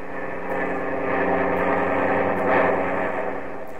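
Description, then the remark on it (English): A steady, loud engine drone of twin-engine Mitchell bombers on a night bombing run to a target in Italy. A dense harmonic hum that swells gently around the middle and holds without pause, with no voices. “The twin-motored Mitchells have already set 1,000 spotlights on the objective.”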